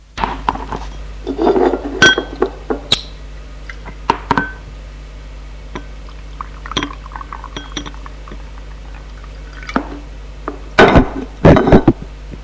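Glass clinks and knocks, then champagne is poured into a glass, a brief fizzing splash near the end, over a steady low hum with no voices.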